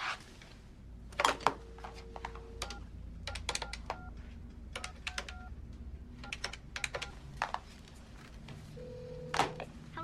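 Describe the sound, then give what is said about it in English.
A telephone number from the back of a card is dialed in an office: a quick, irregular series of button clicks with short keypad beeps, fairly quiet, over a low background hum and no talking. “He picks up the phone and dials the number on the back of the card.”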